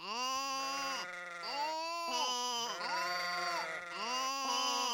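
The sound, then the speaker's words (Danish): Many sheep standing on a road bleating continuously, several overlapping wavering baa calls with strong harmonics, loud and sustained throughout with brief dips between calls, no talking. “Der står så mange får på vejen, at den gule bil ikke kan køre videre.”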